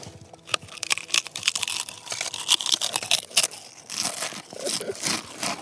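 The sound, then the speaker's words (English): Crisp, irregular crunching of Pringles potato chips eaten inside a hollow sycamore tree called the Pringle tree in a park, a rapid series of sharp crackling bursts that grow denser toward the end, with faint mouth sounds and no talking. “We are in the Pringle tree, and we are eating... Pringles.”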